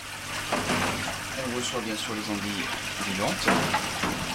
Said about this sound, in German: Hinter ihm strömt Wasser durch schwarze Plastikkörbe. Darin tummeln sich fast 300 Aale,